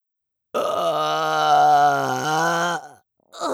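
A long, loud, drawn-out burp from very close by, deep and rumbling for over two seconds before trailing off, then a second burp begins right at the end.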